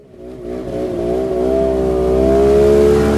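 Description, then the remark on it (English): Snowmobiles (snow machines) zip by at the edge of town in Shishmaref, a tiny island community in the Chukchi Sea near the Bering Strait, Alaska. Engines whine steadily, their buzzing pitch climbing slightly as the sound swells louder over about three seconds, with a low rumble underneath and no voices. “Snow machines zip by at the edge of town in Shishmaref, a tiny island community in the Chukchi Sea near the Bering Strait.”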